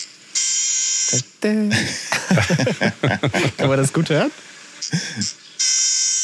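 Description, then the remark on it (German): Nasal, buzzing calls of a trumpeter finch from Europe, like a toy horn: a long drawn-out note opens, a shorter one follows later, and another sustained buzz closes, with someone talking in between. “Das war, das war ein Wüstengimpel aus Europa.”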